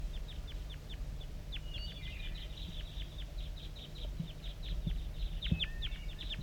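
A wild bird chitters in fast runs of short, high-pitched chitter notes, dozens of quick ticks in loose bursts, moderately loud over a steady low rumble, with calling from decoys. No one speaks.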